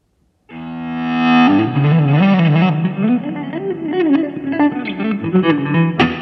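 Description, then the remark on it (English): Electric guitar played with an ebow: a note swells in with no pick attack, then a sustained, slightly distorted melodic line glides and bends between pitches, loud, with no voices. “This gives you a nice, clean guitar string sound without the conventional attack of a pick or fingers.”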